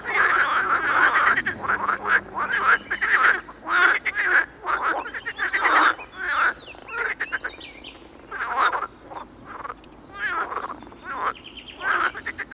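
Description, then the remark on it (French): A dense chorus of small frogs croaking, with rapid overlapping calls that pulse in bursts throughout, fairly loud, with no voices. “Ainsi s'accomplira la prophétie cachée dans les vers obscurs du voyant provençal, où les petites grenouilles jadis moquées deviendront les maîtresses du royaume musical.”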